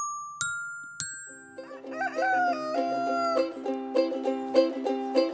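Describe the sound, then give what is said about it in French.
A rooster crows in a long, wavering call after two bright chime-like dings, then gives way to bouncy, rhythmic musical notes. “Monsieur Coq, dès le matin, quand le jour se lève, il réveille ses voisins, il n'a plus sommeil.”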